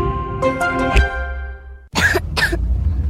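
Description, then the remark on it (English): A child coughs twice in quick succession, fairly loud, in a DayQuil Kids advertisement, right after a short stretch of sustained tonal, music-like sound fades out. “What about my cough?”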